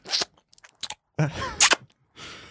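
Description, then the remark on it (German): Wet, sticky smacking and clicking mouth sounds from someone chewing gum, coming in irregular bursts with short pauses, fairly quiet, and a soft voiced murmur partway through. “du musst dein Kaugummi mal ausspucken, bevor wir jetzt hier aufnehmen. Hm. Ist ja am Rumschmatzern.”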